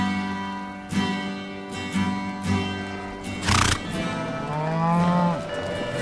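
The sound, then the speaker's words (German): Cattle low repeatedly on a vast open pasture under a blue sky with a few clouds, several long, deep moos rising and falling, one louder near the end, with a brief rustle midway and no talking. “Bleibt bitte auch an den Rindern, da draußen, in der Weite, so ruhig, wie es alle von dir behaupten.”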